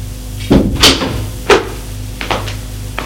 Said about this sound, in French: Frappé à la porte.